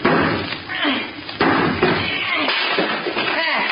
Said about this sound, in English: Now, just see if you can knock that piece out, will you? What piece? The piece of wood around the doorknob that I just sawed. Oh, okay. Look out.